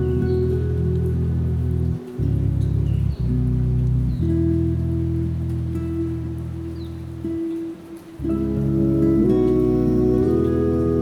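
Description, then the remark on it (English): Steady rain patters on surfaces throughout, a continuous hiss of drops blended with a loud low sustained droning tone that briefly dips a few times. “So imagine your arms are stretched up above you, reaching to meet the falling raindrops, eager to pay homage to all the good.”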